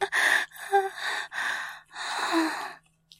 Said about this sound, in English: And writhing. And needy. Oh, and apparently whimpering.